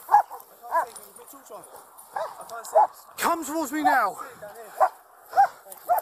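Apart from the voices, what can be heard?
police dog barking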